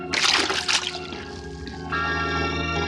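A metal brain-control helmet, thrown by Calimán, plunges into the sea with a loud, frothy splash, the sloshing fading over a second before a sustained ringing, bell-like chord takes over.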